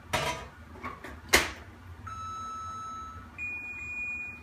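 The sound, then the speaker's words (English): A bowl of mixture clatters as it's set into a microwave for another 30 seconds, followed by the door shutting with a sharp thump, then steady electronic beeping tones from the appliance. No one speaks. “So I just mixed this together, and I think I'm gonna put it in the microwave for just another 30 seconds because it's almost there.”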